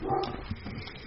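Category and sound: animal, small dog barking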